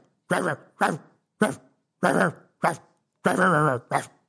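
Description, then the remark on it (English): A series of seven short, loud woof-like barks in a quick, uneven rhythm, alone, voiced by a person imitating a dog. “Us dogs, they love to hear us dogs.”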